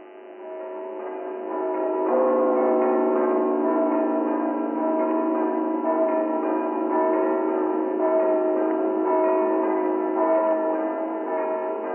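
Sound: church bells ringing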